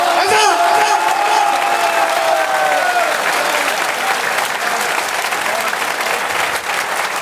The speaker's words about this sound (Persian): خیلی بی حال کف میزنی ها، یه جور کف بزن امام رضا، لبخند بزن امروز، بزن.